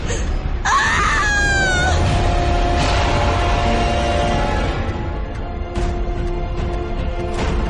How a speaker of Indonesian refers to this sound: Aku mulai merasakan tanah mengenai wajahku. Dan saat itulah aku tiba-tiba bisa berteriak.